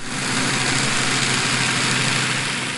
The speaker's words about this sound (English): Oh, yeah, boat noise, a.k.a. human noise. Like, there's less humans out here making human touristy noises.